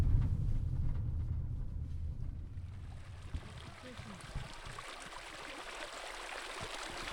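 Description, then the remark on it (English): Water flows steadily from a spring in central Nevada, where water from deep underground comes to the surface, a continuous gurgling wash with a low rumble underneath in the first few seconds, then clearer bubbling and trickling. “I'm at a spring in central Nevada. It's a place where water that's deep underground comes to the surface.”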